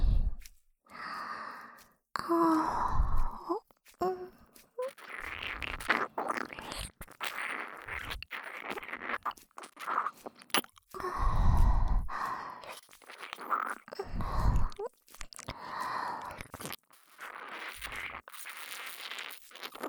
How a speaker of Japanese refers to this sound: 少し、舐め方を変えてみることにいたします。今度は、お耳をすするように。